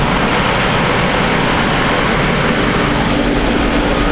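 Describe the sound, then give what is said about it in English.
A Massey Ferguson 860 combine harvester roars steadily while cutting wheat on a home farm, its heavy diesel engine droning loud and unbroken with a dense mechanical rumble and whir of machinery, no voices present. “This is what an 860 Massey Ferguson combine sounds like, cutting wheat on the old home place.”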